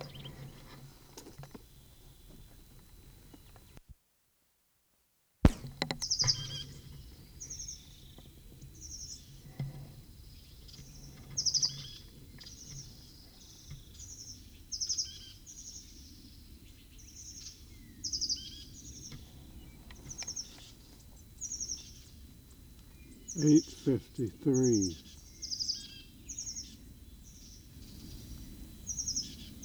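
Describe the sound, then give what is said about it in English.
A bird, the same one heard earlier, sings a steady run of short, high-pitched chirps at 8:44, repeated roughly once a second over a low rumbling background, with a brief burst of louder low thumps near the end. “8:44, same bird.”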